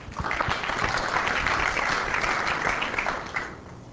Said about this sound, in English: Clap your hands.